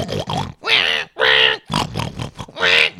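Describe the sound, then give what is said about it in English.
A voice imitates a goregrind pig squeal: several loud, harsh, gurgling vocal bursts in quick succession, raw, with short pauses between them and no ordinary speech. “or on the other side is like the gore grind, porn grind, and whatever grind that is like pig squeal.”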